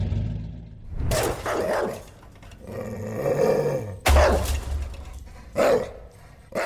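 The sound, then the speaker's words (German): Guard dogs bark in loud, harsh bursts, a few sharp barks spaced irregularly, some with a growling edge, over a steady low engine rumble, part of the Escape tour at Vienna's Museumsquartier, which ends in a truck container. “Laute Befehle von Schleppern, Motorengeräusche, anschlagende Wachhunde.”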